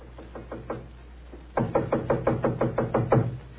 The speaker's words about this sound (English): It gave me a strange feeling as I raised my hand to knock on what once had been my own living room door.